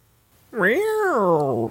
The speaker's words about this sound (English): Oh, that was the door. That's the door. I'm opening the door. The door's open.